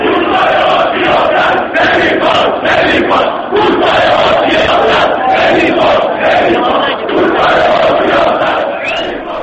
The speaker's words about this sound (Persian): حضور روز چهارشنبه بسیجیان در استادیوم آزادی و شعارهای سیاسی آنها نیشتری بر تمام این زخم‌ها زد تا این شعار به هر تشویقی در استادیوم بچربد